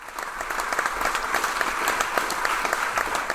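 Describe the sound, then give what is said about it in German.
Sustained applause from a theatre audience at the end of the premiere of Der Drache at the Deutsches Staatstheater Temeswar, a dense steady wash of many hands clapping with scattered sharper claps standing out, fairly loud and continuous throughout with no voices. “Gefühle, Emotionen, begeisterten, aber auch ergriffenen Applaus gab es am Ende der Premiere von Der Drache am Deutschen Staatstheater Temeswar.”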